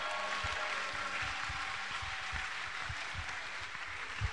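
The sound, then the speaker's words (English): An audience claps their hands for the Lord during a sermon, a dense, continuous patter of many overlapping claps with a few sharper, louder strikes, steady and fairly loud throughout with no voices. “Somebody should clap your hands for the Lord.”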